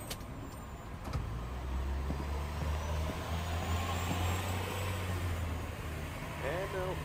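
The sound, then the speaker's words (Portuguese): Steady low engine rumble of idling vehicles in stalled traffic, with a faint brake hiss and road noise, continuous. “Travado isso aqui mesmo. Olha lá, ó. Já tem umas pessoas pra fora do carro.”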